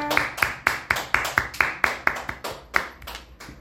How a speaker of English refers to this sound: Clap for her.